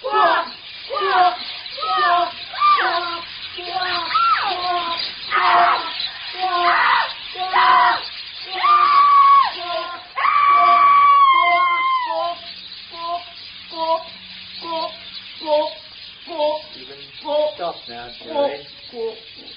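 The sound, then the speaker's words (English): Several voices squawk loudly and repeatedly in imitation of birds, a rapid, overlapping chorus of harsh, shrill cries that rises to a shrieking peak midway, then continues in steady bursts. “Now, when I say now, let's start squawking.”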